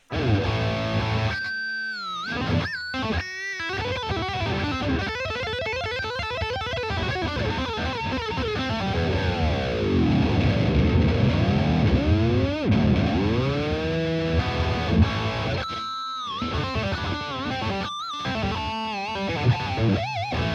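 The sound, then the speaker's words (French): Loud, heavily distorted electric guitar played through a distortion pedal switched from clean to distorted sound. It holds sustained, thick chords broken by a few abrupt pauses, with a swooping, sweeping tonal effect in the middle stretch. No one speaks. “Donc certains vont me dire, oui, t'es gentil, je veux passer du clean à la disto”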